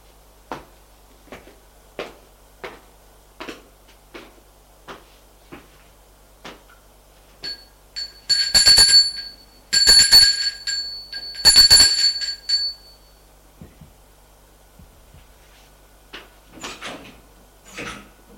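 A doorbell rings at the door of a notary's office on the first floor, in three bright, metallic bursts, each a second or so long, after a steady series of sharp, evenly spaced taps. No one speaks.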